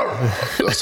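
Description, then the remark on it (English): A person briefly imitates a dog with a short, gruff vocal bark and growl, under a second long. “can you give us a bark really quickly before I get to Danny on this question?”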